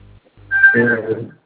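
A brief snippet of phone ringback tone music: a tinny, bright melody with a sustained high note that lasts about a second, fairly loud after a low hum.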